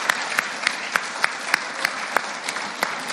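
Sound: audience applause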